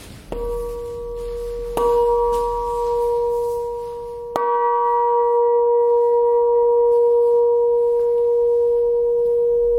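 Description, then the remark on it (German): A single bell, cast for the Landesgartenschau in Apolda and now hanging at an entrance, bearing an image of Albrecht Dürer's praying hands, is struck three times, each clang bright and loud, leaving a steady, humming ring that sustains and slowly fades between strikes, with no voices. “Die Aufgabe der Glocken ist ja zu rufen, die Gemeinde zu rufen und zu erinnern an das Gebet.”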